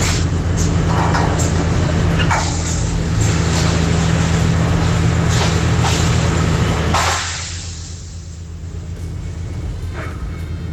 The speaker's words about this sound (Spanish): Claro, son ruido de sonido de obras, de estructuras, de levantamiento, qué sé yo, el uso también de claro, los mismos trabajadores, que también los mismos obreros que se encuentran también hacen también suben un poquito más el tono